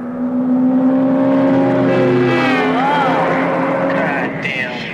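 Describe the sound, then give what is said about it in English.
The engine of a fast sports car, one of the fastest production cars in the world, roars as it approaches, its pitch climbing and swooping as it revs hard, loud and steady for several seconds. “Nobody's got a chance against that car. That's one of the fastest production cars in the world.”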